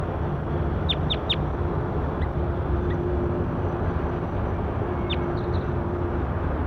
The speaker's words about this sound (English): Start recording bird 8-3. That's her.